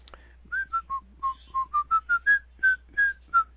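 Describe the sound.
A person whistles a short melodic tune, Dixie: about a dozen clear, rising and falling notes in a steady rhythm, fairly loud against a faint low hum, with no talking.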